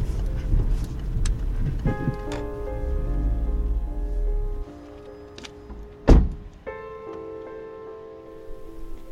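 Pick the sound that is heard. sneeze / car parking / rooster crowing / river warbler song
car parking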